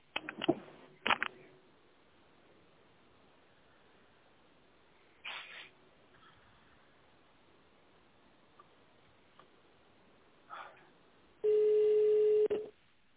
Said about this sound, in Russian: Наберите номер абонента в тональном режиме или дождитесь ответа секретаря.